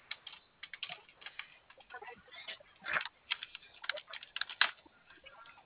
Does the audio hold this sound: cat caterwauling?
no